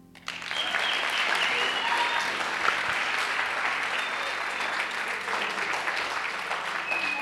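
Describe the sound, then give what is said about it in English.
Sustained audience applause, a dense wash of many hands clapping at a steady, loud level for several seconds after a quick rise, with no voices standing out. “clap.”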